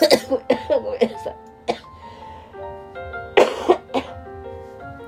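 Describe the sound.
A run of sharp coughs in quick bursts, brought on by breathing in, a pause, then two more harsh coughs, with a brief apologetic voice and soft background music underneath.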